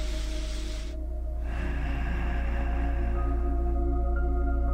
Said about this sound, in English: And then let's spend time breathing through the nose. But we'll press our lips together when we breathe out. So you'll get a noise like